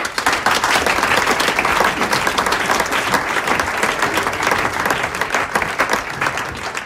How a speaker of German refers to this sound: Und der kommt jetzt zu mir auf die Bühne mit einem großen Applaus.